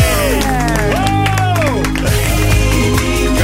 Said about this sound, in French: Applaudissements